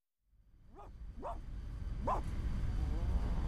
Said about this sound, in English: What was that? It was a dog!